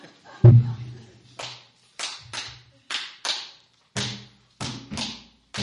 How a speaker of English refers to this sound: if folks were wanting to clap along with this at some point, like we sing a line and then we clap, what sort of beat would you recommend? Can you demonstrate one for us?